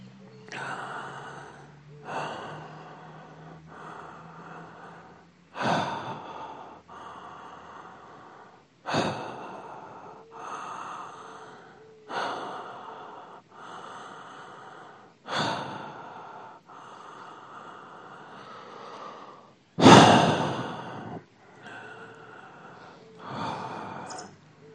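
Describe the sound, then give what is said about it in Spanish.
Deep, rhythmic breathing repeats in strong waves during a guided breathing exercise, each inhale and exhale rushing audibly, building in force toward intensity with a sharper gasp-like breath near the end. No speech. “Y ahora sí, la respiración va a ir creciendo hacia una intensidad, hacia un fuego que vaya habilitando este encuentro.”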